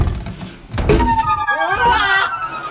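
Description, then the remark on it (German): A wooden cabinet door shuts with a single dull thunk, quickly followed by a loud warbling, siren-like tone that glides up and down. “Tja, schließen wir die Tür.”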